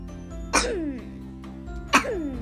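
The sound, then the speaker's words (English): Two deliberate, put-on coughs about a second and a half apart, sharp, each trailing off into a brief voiced tail over a steady low background hum. “That was fake coughing, by the way.”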